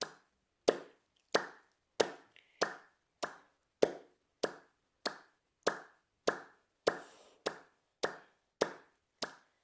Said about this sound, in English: So we have to make sure all our five fingers are touching when we clap. Yeah, so let's do some clapping to ignite that joy into our life.